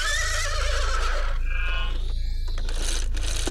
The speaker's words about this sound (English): This is a horse.